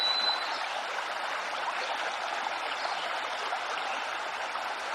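small stream flowing water

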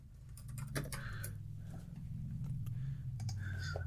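typing on computer keyboard

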